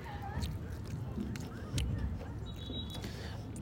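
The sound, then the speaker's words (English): Loud chewing with repeated wet, crunchy bites at an irregular rhythm, over a steady murmur of background voices and room noise. “Why are you chewing so loud?”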